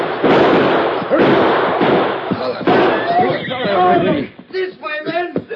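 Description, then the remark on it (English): A rapid series of loud gunshots cracks out at irregular intervals in a western shootout amid a busy, noisy scene, followed by men's voices calling out. “They're shooting.”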